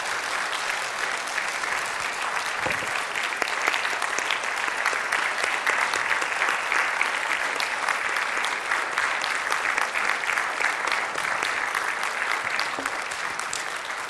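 Sustained applause from a crowd, a dense steady clatter of many hands clapping at an even loudness for the whole stretch, with no voices standing out.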